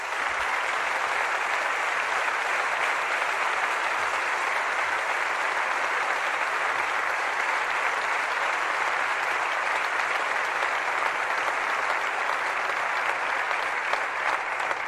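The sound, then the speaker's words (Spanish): Sustained applause from an audience in memory of people connected with Villarreal, including the late Juan García and José Manuel Llaneza, a dense, steady wash of many hands clapping at an even, fairly loud level for about fifteen seconds, with no voices rising above it. “Y me gustaría un aplauso.”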